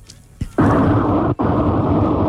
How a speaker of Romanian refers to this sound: Crivăț, cred că te auzim. Ți aude deocamdată vântul.